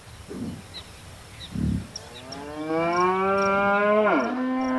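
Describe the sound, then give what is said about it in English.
A cow on a farm lets out a long, drawn-out moo that dips in pitch at the end, preceded by a couple of low, short grunts, with faint birds chirping in the background. “Once they got the pregnant heifers on the farm, they began to milk them and deliver bottles of fresh, sweet milk to the townspeople.”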